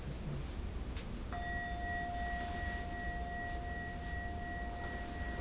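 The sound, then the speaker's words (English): A single bell strike, rung as a pause between sections of a 100-verse renga poem reading, followed by a clear, steady ringing tone that sustains for several seconds over a soft, hissy background, with no one speaking. “And it's in 8 sections, and I ring the bell between each section to give us a little pause.”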